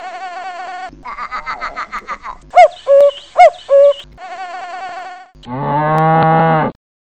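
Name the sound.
cattle mooing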